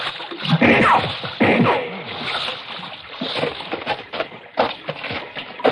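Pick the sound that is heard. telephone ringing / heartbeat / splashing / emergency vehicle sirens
splashing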